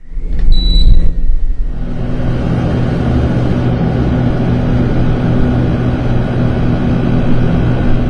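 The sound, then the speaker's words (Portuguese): An air conditioner runs in Maringá during heat of nearly 40 degrees, with a steady, low droning hum and a constant airy whoosh, preceded at the start by a brief high-pitched tone and a short clatter. “Para sobreviver ao calorão de praticamente 40 graus que está fazendo em Maringá nos últimos dias, muita água, protetor solar e o ar-condicionado.”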